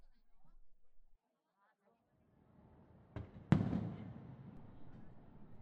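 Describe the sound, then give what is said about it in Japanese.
Two sharp fireworks bursts from a fireworks display go off a moment apart, the second louder, followed by a lingering crackling rumble at moderate level. Brief quiet voice sounds come before the bangs. “あら、花火が始まったようですね。”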